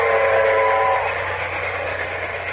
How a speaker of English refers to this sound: From my vantage point on top of the Omaha Depot roof, I can see a pilot train, which will run 10 minutes ahead of the presidential train as a safeguard. It's rounding a curve.